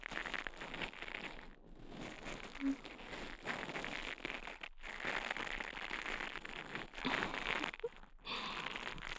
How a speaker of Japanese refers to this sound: お耳の中で毛がパチパチと当たってくすぐったいですよね。でも気持ちがいい。